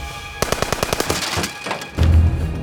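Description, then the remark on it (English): A rapid, evenly spaced burst of automatic gunfire from an AK-47 rattles off a dozen or so sharp cracks as a gunman fires along a line of cars waiting at a traffic light, then gives way to a louder, sustained low rumble of bullets hitting the cars, shattering windows and striking metal. “Suddenly, bullets began crashing into the cars, shattering the windows and embedding into the metal sides.”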